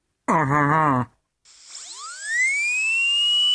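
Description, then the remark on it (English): A short low buzzing hum, a brief pause, then a high-speed dental drill drilling into a tooth spins up, its whine sweeping upward into a loud, steady, piercing tone that continues to the end. No one speaks. “Drilling into a tooth at high speed, you obviously get a lot of heat buildup.”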